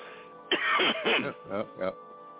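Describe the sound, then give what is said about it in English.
A fairly loud bout of throat clearing and coughing: one long rasping burst followed by three shorter hacks in quick succession, with no talking. “But I'm going to go cough some more.”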